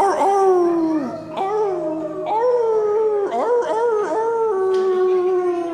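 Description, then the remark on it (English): A crowd of people howls together like wolves in a group participation song, voices imitating the animal in long overlapping wails that swoop up and down in pitch, loud and sustained for several seconds. “Are you guys ready to howl? So this is a group participation song.”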